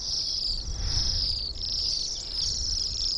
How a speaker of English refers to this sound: Picture a starling-sized bird with a swanky crest, a black mask, wings painted in red, yellow, black, and white, and a tail boldly tipped with yellow. This glamorous winter visitor is the Bohemian waxwing.